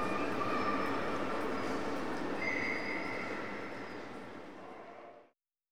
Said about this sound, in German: Auf Gleis 11 fährt ein die S4 aus Kaiserslautern. Bitte in diesen Zug nicht einsteigen. Der Zug endet hier.